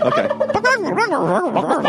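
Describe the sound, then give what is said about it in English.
A person imitates chicken noises with warbling, squawking vocal clucks that rise and fall rapidly, loud, continuing without pause for a couple of seconds. “Let's close with chicken noises.”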